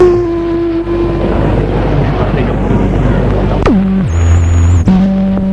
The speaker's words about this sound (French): Ils prennent le bateau.